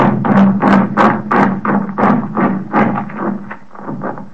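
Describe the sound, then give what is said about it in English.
A man chewing celery, picked up by a little compact microphone pressed against his cheek: a steady series of loud, booming crunches, roughly two per second, each a deep thudding burst that fades slightly toward the end. “Now, if celery can sound like thunder, what can thunder sound like?”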